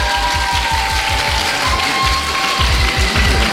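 Loud, steady audience applause, a dense crackle of many hands clapping continuously for a few seconds with no voices over it.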